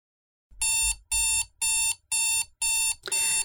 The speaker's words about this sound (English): your alarm goes off.